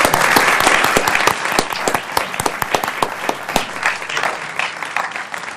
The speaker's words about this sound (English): A big round of applause for our judges.